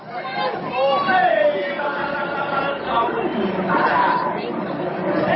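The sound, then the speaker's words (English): A baseball stadium crowd reacts disapprovingly, a loud, sustained swell of voices and groans rising and falling together for several seconds, with no single speaker standing out. “Crowd certainly didn't like it.”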